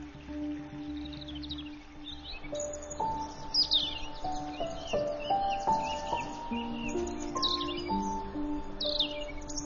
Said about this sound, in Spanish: Los coros de cortejo de petirrojos y trepatroncos resuenan por todo el bosque.